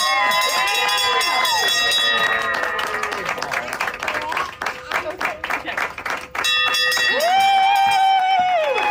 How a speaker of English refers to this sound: Jamie got to ring her bell yesterday.